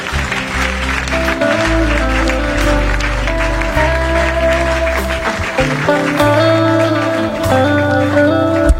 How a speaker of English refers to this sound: Can you clap your hands and bless the Lord?